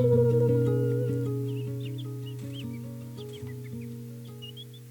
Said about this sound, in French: Les oiseaux.